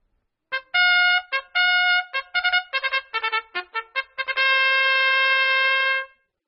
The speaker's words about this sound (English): Trumpet.